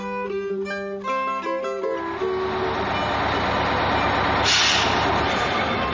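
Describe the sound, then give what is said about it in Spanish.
A bus pulls up, a steady low engine rumble building after a few opening tonal honks or beeps, then a brief burst of brake-like hiss. It's fairly loud, with no voices. “Ya el autobús, Otilia.”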